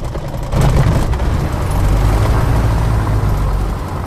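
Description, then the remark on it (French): A light aircraft engine is started with the starter after the fuel is opened. It catches after a brief quiet moment and settles into a loud, steady low rumble with a droning hum as the propeller turns, blowing water droplets back off the windscreen. “Hop, je le ferme, je vais enclencher le démarreur et c'est parti.”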